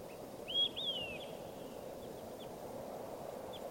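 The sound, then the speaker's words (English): A bird, recorded as bird 585, gives two quick, high whistled calls over steady rushing background noise, followed by a couple of fainter, brief chirps later on. “Start recording bird 585.”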